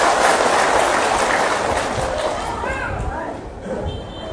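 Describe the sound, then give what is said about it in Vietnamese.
A crowd at a Vu Lan festival ceremony in 2014 applauds with dense, steady clapping that stays loud and fades slightly toward the end, while a few voices can be heard in the mix. “Xin tất cả dành một tràng vỗ tay thật lớn để nhớ ơn nghĩa này.”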